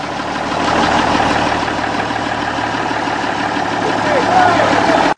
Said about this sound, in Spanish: Pero Ponzi llegó como cada mañana, impecablemente trajeado a bordo de su locomóvil, el auto más costoso del momento.